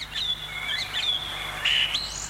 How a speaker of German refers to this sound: Singdrossel.